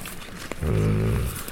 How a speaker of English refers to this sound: He can even hear the cat snoring.